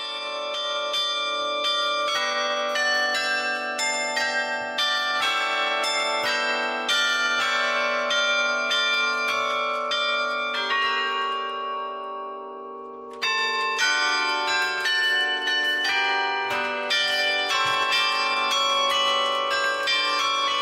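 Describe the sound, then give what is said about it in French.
Carillon bells of Forcalquier, France, a carillon in place since 1925, ring out a lively melody, many tuned bells struck in quick succession with rich overlapping tones, steady, pausing briefly near the middle before the tune resumes. “Donc en 1925, il y avait déjà ce carillon.”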